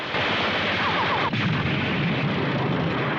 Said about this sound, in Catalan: La nau d'en Pilaf continua disparant. Un dels trets impacta contra el dipòsit de combustible.